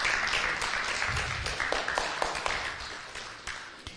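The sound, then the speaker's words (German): A crowd of people applauds steadily, the dense patter of many hands clapping at once, thinning slightly toward the end with a few sharper individual claps standing out. “Komm, wir geben den beiden mal einen Applaus.”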